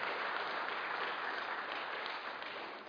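An audience applauds in a dense, steady wash of clapping that holds at an even, fairly loud level for about three seconds, easing only slightly at the end. No clear voices stand out.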